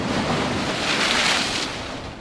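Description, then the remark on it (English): Ocean surf and strong, cold wind on a foggy beach at Moss Landing State Park, between Santa Cruz and Monterey in central California, form a loud, steady roar, with a wave washing in and swelling briefly in the middle before easing off. No one speaks. “I'm on a beach in the smack dab middle of California. The breeze coming off the jet is getting violent, and it's really cold.”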